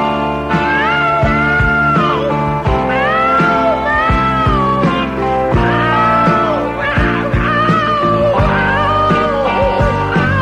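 A cat meows in long, sliding, pitch-bending cries that follow a melody like singing, loud and continuous over steady backing music with a regular beat.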